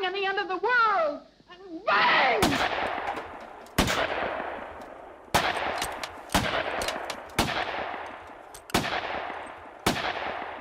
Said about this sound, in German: Sie hörten 7 Originalschüsse von Niki de Saint-Phalle auf die Leinwand von 1961